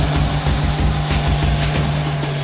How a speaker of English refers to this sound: You can hear that engine growing with the hydraulics. It's all or nothing, definitely, with that one now.